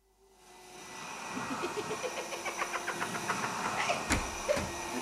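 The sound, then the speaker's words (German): A repaired vacuum cleaner starts up and runs with a steady, loud motor whine, a rhythmic pulsing running through it and a couple of sharp knocks near the end. “Der Staubsauger war gut repariert. Er saugte einfach alles ein.”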